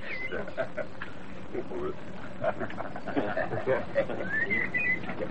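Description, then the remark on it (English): A blackbird sings a few short whistled phrases near the end, rising and fairly clear over a busy background of murmuring voices and low rumbling noise. “Blackbird! How greedy, little sod.”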